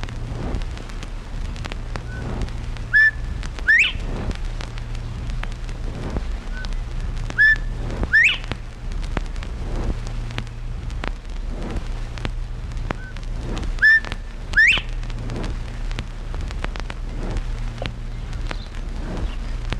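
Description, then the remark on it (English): A bobwhite quail whistles its clear two-part call several times, each a short note followed by a sharp rising whistle, spaced out over a steady low outdoor rumble. “Bob White.”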